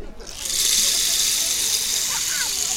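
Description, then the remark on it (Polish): A rattle-like shaker is turned over, releasing a steady rushing hiss like sand pouring through, swelling in after a brief moment and continuing evenly to the end. “To jest taka chyba grzechotka, którą jak obrócisz w drugą stronę, to wyda piękny dźwięk, jakby przesypującego się piasku.”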